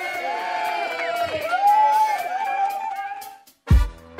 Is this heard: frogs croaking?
no